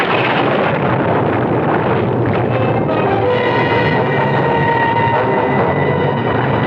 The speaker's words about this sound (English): Out into the storm he obviously created